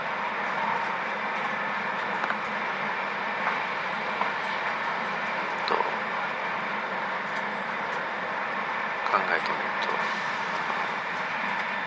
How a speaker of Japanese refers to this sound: 今新幹線の中、ちょうど今浜名湖を通るところです。